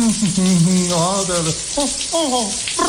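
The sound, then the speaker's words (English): Water runs steadily from a tap or shower, a continuous hiss, while a voice hums or speaks over it. “Did you just turn on some water someplace?”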